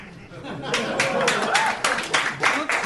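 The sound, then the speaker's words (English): An audience breaks into clapping partway through, a steady patter of hands swelling and rippling for a couple of seconds, mixed with murmuring voices and a bit of laughter. “People are clapping”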